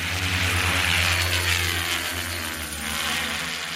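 A loud, steady mechanical buzz of drone propellers in darkness on a battlefield in Ukraine, with a low humming tone and a bright airy whir over it, holding constant throughout without any voices.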